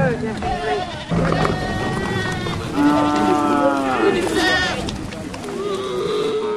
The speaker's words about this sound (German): derweil die Hirten ihre Kühe, Ziegen, Schafe und Kamele in die Bomas treiben, in die mit Dornengesträuch geschützten Übernachtungsplätze.